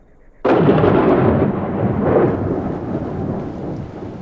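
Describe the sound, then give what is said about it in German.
A sudden loud crack of thunder during a thunderstorm breaks out of near silence, then rumbles on in a long, heavy roll that slowly fades, with no voices present. “Die Wolken türmten sich schwarz, höher als die Berge am Horizont, und ein Donnern schallte über das Land, als würden 1000 Geisterrösser über den Himmel”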